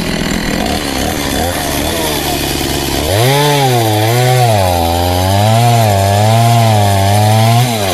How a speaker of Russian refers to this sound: А можно попробовать ваше бензопило? Я тоже знаю, как пилить. Можно лед попилить? Чуть-чуть буквально, да? Сколько раз пилил бревна, а вот лед никогда.